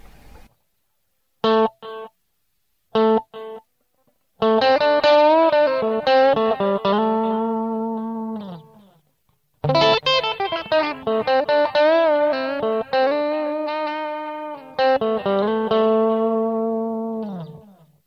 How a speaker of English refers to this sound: So what I'm going to do now is start off adding some delay to the sound. I'm using a digital delay set to about 400 milliseconds to give it a little bit of a slapback sound. We'll hear what that sounds like now.